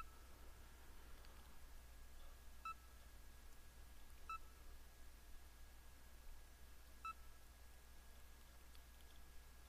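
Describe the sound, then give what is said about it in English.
Three short, quiet electronic beeps at steady intervals of roughly a second and a half, alone over a faint steady hum, signaling that a Bookshare book file, Running Linux, is loading for playback. “And the little beeps indicate that the file's loading.”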